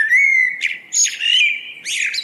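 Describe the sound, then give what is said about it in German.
A blackbird sings a fluting, melodious phrase of clear whistles and warbles, fairly loud, with a brief pause mid-song and no voices. “Die Amsel, die gefällt uns beiden eindeutig besser als die Schleiereule.”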